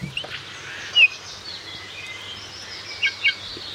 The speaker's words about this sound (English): Because I like birds. This is a bullfinch.